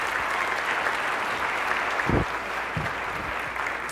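An audience claps steadily for several seconds, the dense, even patter of many hands blending into a continuous wash, with a few heavier low thumps partway through.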